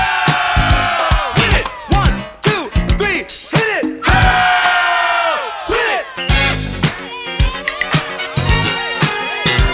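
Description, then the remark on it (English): A crowd screams loudly and continuously for several seconds on a count of three, as asked: a dense wall of high-pitched shrieking and yelling that surges and swells without a break. “If you wanna scream to the break of dawn, at the count of three, scream loud and long.”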